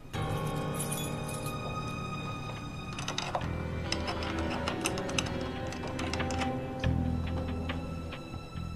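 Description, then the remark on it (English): A key rattles and scrapes in a door lock as someone tries to open the door, a burst of metallic clicks and jiggles that starts after a few seconds and continues over a steady tonal background hum. “Give me your key to open the door.”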